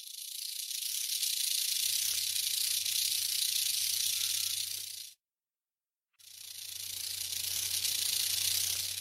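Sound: snake hissing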